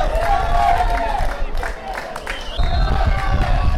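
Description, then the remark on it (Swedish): A large football stadium crowd roars continuously after a late equalizing goal, a dense wash of cheering and shouting that dips briefly midway before surging back loud. A whistle-like tone cuts through near the end. “Och det var precis ett utskede. Publiken är galen.”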